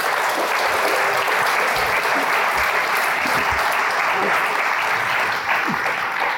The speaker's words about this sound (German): Bitte Applaus.